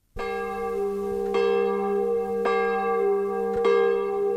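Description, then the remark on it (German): A large church bell tolls repeatedly, struck about four times at a slow steady pace, each deep resonant strike overlapping the long humming ring of the one before, with no voices. “Der Klang dieser Glocke ist zu einem Symbol der Freiheit, des Neubeginns und der Teilung Deutschlands geworden.”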